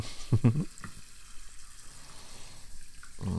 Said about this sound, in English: Yeah, let me turn on the water for you. And spit.